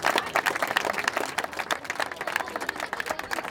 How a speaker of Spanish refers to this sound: Hoy contamos aquí con la presencia de un club tan importante de Escocia como Watsonian. Por favor, un aplauso al equipo GC.